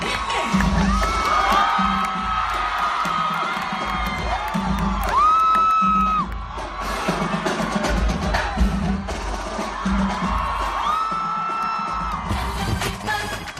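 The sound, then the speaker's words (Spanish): A large crowd at a music festival screams and cheers loudly and continuously, with high-pitched shrieks and whoops rising above a dense roar that swells in waves throughout. “Y bueno, si el grito que habéis escuchado está bien, este ya...”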